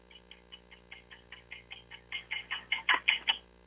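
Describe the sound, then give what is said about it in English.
A countdown timer ticks in a steady, rapid rhythm, timing a contestant's answer to a trivia question; about fifteen ticks start soft and grow steadily louder and harsher toward the end. “Time on the clock,”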